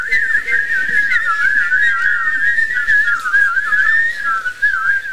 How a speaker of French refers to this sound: Et même encore le chant des oiseaux.